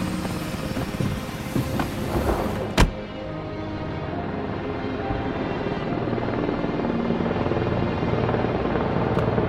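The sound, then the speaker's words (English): A loud, steady aircraft engine drone runs throughout with propeller-like buzz, broken by a sharp knock early on, the roar building slightly as the plane powers up for takeoff. “We'll lose the other plane for sure if we don't take off right now.”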